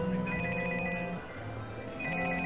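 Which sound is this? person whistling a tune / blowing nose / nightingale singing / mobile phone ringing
mobile phone ringing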